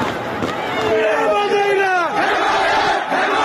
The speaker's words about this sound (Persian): با تاریک شدن هوا درگیری‌ها شدیدتر هم شد. این فریاد حمایت طلبی مردم مهاباد.